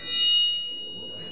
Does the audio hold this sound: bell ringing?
yes